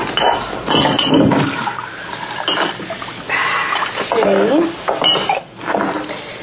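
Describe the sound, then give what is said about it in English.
Dishes and cutlery clatter as a cup is handled, followed by milk and orange juice being poured with splashing and gurgling, broken by short pauses and a few more clinks. “So we'll, put it in this. She won't be able to see what she's drinking. Let me get a cup, jerk.”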